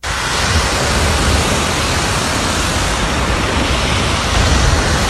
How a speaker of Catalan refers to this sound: El so de les onades que sentia l'animal que va aparèixer ahir per sorpresa a la platja de Tamariu.